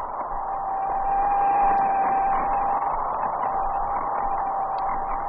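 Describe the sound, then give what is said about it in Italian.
Radio signals from a Soviet lunar probe, its last impulses sent to Earth before crashing onto the lunar surface, recorded at the Bochum observatory in West Germany: a steady, muffled band of static hiss with a thin, high whistling tone running through it, continuous and unchanging for the whole stretch, with no voices. “Sono gli ultimi impulsi che l'Unix secondo, il satellite sovietico, sta inviando a Terra prima di schiantarsi sulla superficie lunare.”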